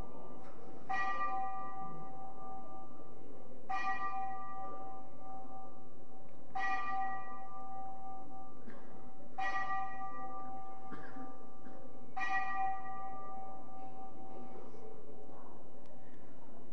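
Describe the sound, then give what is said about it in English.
A clock chimes like a bell, five evenly spaced ringing strikes about three seconds apart, each with a bright metallic onset and long harmonic decay, moderately loud against quiet surroundings. “Oh, the bell is ringing again. Damn clock.”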